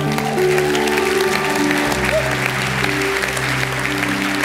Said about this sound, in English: we want to applaud you for coming home and having the courage to respond when someone handed you a flyer, a simple invitation, and you came and you said yes.